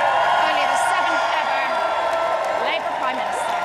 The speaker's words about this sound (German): Die BBC-Reporterin kam kaum gegen den Jubel an. Hunderte Freunde und Parteikollegen hatten sich vor der 10 Downing Street versammelt, um Keir Starmer, den neuen Labour-Premierminister Großbritanniens, willkommen zu heißen.